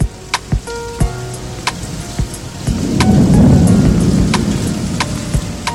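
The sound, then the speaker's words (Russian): Steady rain hisses throughout, with scattered sharp drops striking, while a deep rumble of thunder swells up in the second half and lingers beneath the downpour. “говорить тошно, душно, дождь пошел.”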